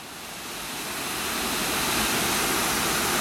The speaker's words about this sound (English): Managed to navigate the tricky terrain and we've made it to Posfath Gill Waterfall, which is flowing really nicely today. Down from a height of about 10 to 15 metres, it's quite a tall waterfall.